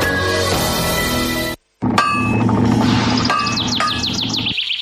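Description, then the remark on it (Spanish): Ringing metallic clangs of iron being hammered in the distance, struck at an uneven pace, with bright chirps of a robin piping over the strikes in the second half. No one speaks. “Ouvir o lonxe martillar o ferro, que prazer.”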